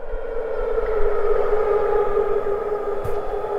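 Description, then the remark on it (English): An air raid siren in Jordan, one of successive rounds at 7 a.m. on a Saturday morning, wails in a loud, sustained, steady tone, its droning pitch holding throughout with a faint low rumble underneath and no voices. “on a Saturday morning, there were successive rounds of air raid sirens across Jordan.”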